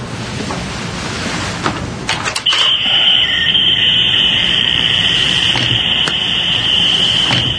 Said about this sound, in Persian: دستگاه ضد شنوده ما نمیشنویم، اما وقتی دوربین ضبط میکنه روش نویز میفته. این دستگاه همیشه همراهشه؟